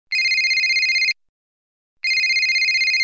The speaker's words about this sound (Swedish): Nu ringer min mamma.